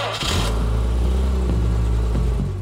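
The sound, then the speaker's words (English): A powerful Jaguar car engine rumbles, revving up sharply at the start and then holding a deep, steady throaty growl with slight pitch shifts, loud and alone. “It was a perfect getaway car, and it was his getaway car of choice.”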